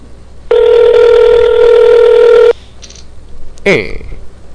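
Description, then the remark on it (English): A single steady ringback tone from an outgoing phone call buzzes loudly for about two seconds, then stops, followed by a quiet gap and a short, sharp burst of noise. “Pick up the phone, you dirty little bastard.”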